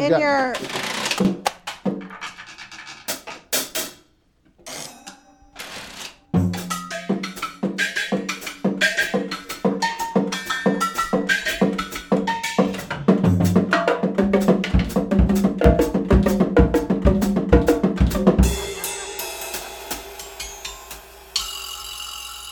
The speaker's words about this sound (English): That's a kitchen rack. I don't know what it is. Pots and pan lids.